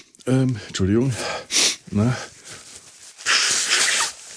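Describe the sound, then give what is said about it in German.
Someone blows their nose in a long, breathy burst near the end, after short coughing, snorting sounds and vocal noises, with a brief sniff in between. “Ich möchte mal einen Podcast machen, ohne hier nicht das Schneuzen und Husten anzufangen.”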